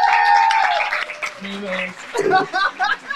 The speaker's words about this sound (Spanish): Miren quién está acá, por favor. ¡Un aplauso!